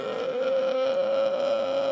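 A child moans in one long, steady, unbroken whimper, fairly loud at a nearly constant pitch, with no speech around it.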